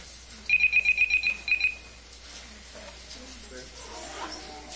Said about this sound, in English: Well, the bell's about to go, so I'll stop at this point.